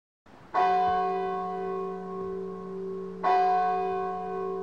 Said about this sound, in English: Scrooge hears church bells.